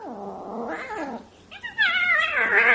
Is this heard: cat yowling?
yes